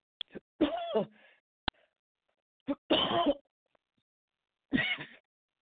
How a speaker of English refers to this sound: Excuse me, I start coughing, and sometimes I cannot stop.